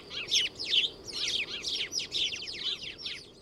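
house sparrow chirping

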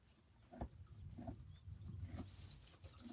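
birds singing at sunset

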